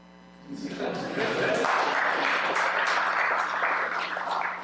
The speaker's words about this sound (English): Even in the summer, y'all stepped up and stayed ahead of budget. You can clap.